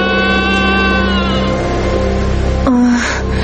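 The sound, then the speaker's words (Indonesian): A young goat lets out a long, drawn-out, weak bleat with a steady, nasal tone, then breaks briefly into a shorter cry near the end, heard alone. “Sepertinya aku mendengar suara anak kambing. Suara itu lemah sekali.”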